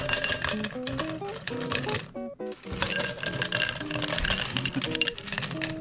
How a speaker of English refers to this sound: Okay, so you start off and you get a tall glass, and you fill it with ice. Okay.